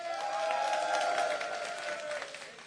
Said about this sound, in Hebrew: אני רוצה להזמין אל הבמה, במחיאות כפיים סוערות,